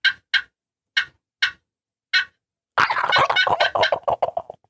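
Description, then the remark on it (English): A handheld turkey call gives five evenly spaced, sharp yelps, then breaks into a fast, dense run of yelps. It sounds loud, with no talking. “Now pop it. Use it. Pop it. Yep. Now yelp it fast.”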